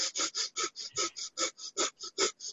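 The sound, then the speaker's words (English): Rapid, forceful breath-of-fire yoga breathing through the nose while flapping the arms like wings: about thirteen quick, evenly spaced nasal puffs in under three seconds, fairly loud, with no talking. “So you're breathing an inhale and exhale very quickly on a full, fill up your lungs full of air while you beat your arms up and down.”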